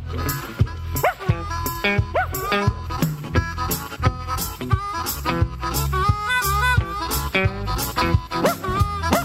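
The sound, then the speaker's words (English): A hound barks and yips repeatedly in quick, rhythmic bursts, loud, over steady background music with a bass line. “Make no difference ever, he's a hound.”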